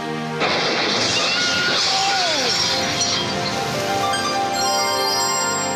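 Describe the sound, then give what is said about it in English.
Glass shatters with a sudden loud crash, followed by a scatter of tinkling shards over a roaring, gusty background of strong wind, sustained throughout. “Oh, I got a little bit of glass in my leg.”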